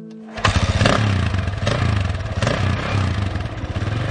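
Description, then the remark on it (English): A motorcycle engine kicks to life and idles loudly, its throaty rumble surging in a few uneven revs. No voices, just the steady mechanical roar. “I should buy a motorcycle.”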